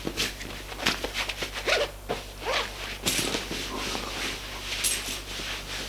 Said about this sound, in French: se déshabille.